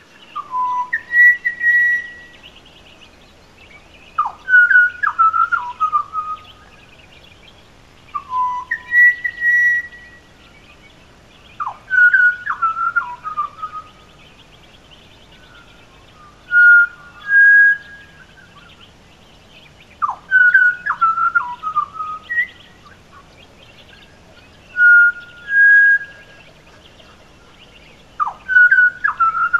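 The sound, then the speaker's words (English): A pied butcherbird sings its nocturnal song alone at about 4:40 a.m., repeating clear, fluting whistled phrases with short pauses between them, steady over a quiet background. “This is indeed a pied butcher bird, singing a nocturnal song.”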